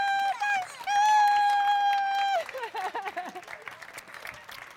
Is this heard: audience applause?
yes